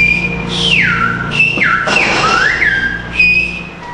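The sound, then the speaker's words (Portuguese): Loud, piercing whistles in Silbo Gomero, the whistled language of La Gomera, as girls from a public school chat during a class, sliding up and down in pitch, with sweeping glides and held tones traded back and forth like a whistled conversation, over a low background rumble. “O que vocês estão ouvindo não é música, nem imitação de passarinho.”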